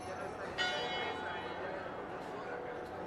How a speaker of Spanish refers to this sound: Y esas que suenan son las campanas de la iglesia de San Francisco en Bogotá, en el centro de Bogotá.